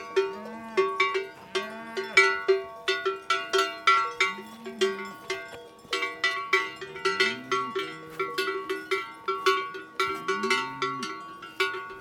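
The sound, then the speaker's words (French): Many cowbells clang in a steady, overlapping jumble of bright metallic rings across the mountains, with a few low cattle moos breaking through now and then; no one speaks. “Les clarines des vaches qui résonnent dans la montagne et qui donnent toute la dimension de la montagne, tout l'espace de la montagne.”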